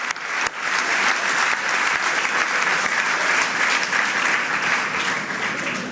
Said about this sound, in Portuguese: Agradecimentos, André Villas-Boas, a recolher também forte aplauso na sede de campanha.